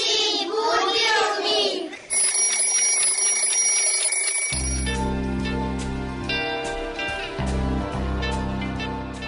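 A brief voice is heard first, then an alarm clock bursts into a loud, rapid metallic ringing that keeps going, with a deep sustained tone joining underneath partway through.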